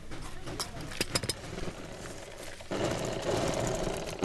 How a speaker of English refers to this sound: Muhammad Arif cuts out fabric and sits down at his electric sewing machine